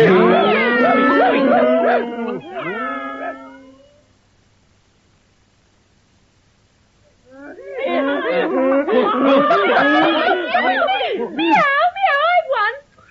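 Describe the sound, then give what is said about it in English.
Several people vocally imitate animal noises all at once, a loud overlapping jumble of meowing, wailing and yowling calls, then a few seconds of silence before another burst of mimicked animal cries. “Oh, all once round to check our noises.”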